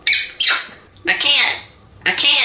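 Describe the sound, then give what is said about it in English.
A parrot lets out loud, harsh squawks in four bursts, the first two quick together, then two more spaced about a second apart, each raspy and shrill. “Here is a parrot with a southern accent.”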